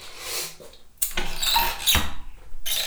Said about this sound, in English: I'll shut this door right too, because I'll have my arms full when I come back in.